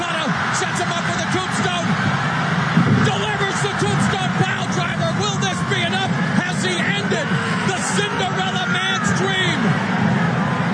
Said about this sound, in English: Just listen to the crowd